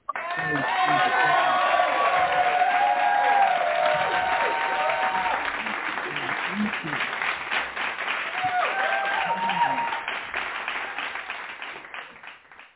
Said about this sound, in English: and we're going to welcome her with a hand clap.